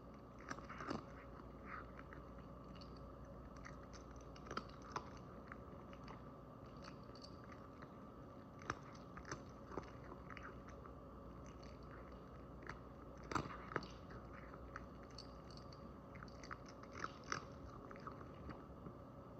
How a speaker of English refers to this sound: we're going to be sent off with the sounds of Link, the three-legged black cat, munching on his dinner.